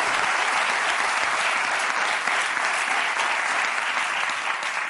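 Steady, sustained applause from an audience, a dense wash of many hands clapping at an even, fairly loud level for the whole stretch with no voices standing out.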